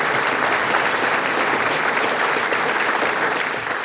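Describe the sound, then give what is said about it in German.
Steady, dense applause from an audience, a continuous wash of many hands clapping at an even, loud level throughout, with no voices standing out. “Echt Applaus und wir freuen uns, dass wir euch da haben heute.”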